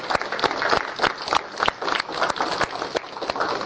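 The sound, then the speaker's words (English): A crowd claps steadily at the end of a course to thank the facilitators, dense overlapping hand claps with a few sharper individual claps standing out, sustained at moderate loudness with no talking. “I'd like to give them an applause and thanksgiving for the work that they've done.”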